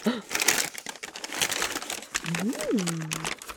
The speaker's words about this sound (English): And then I'm gonna shake the paper because sometimes stores do like little extras, sometimes they don't. These folks do not.